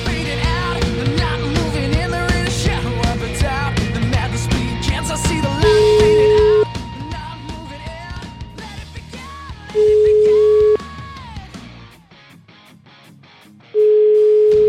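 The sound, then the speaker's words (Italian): A steady telephone ringback tone sounds three times in long, evenly spaced beeps over a busy background of music, with the tones standing out loud and clear near the end, as a call is placed from the Radio 24 show. “Una telefonatina, tanto immagino, per tastare l'umore di Los Angeles.”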